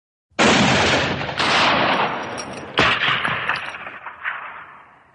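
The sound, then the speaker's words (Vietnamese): Three loud gunshots, fired at a Mongolian horse that falls to the ground, ring out about a second apart, each sharp crack trailing into a long reverberant echo that fades away, with no voices present. “Mấy tiếng súng, con ngựa Mông Cổ của bà Thổ Ti ngã vật ra đất, máu lênh láng.”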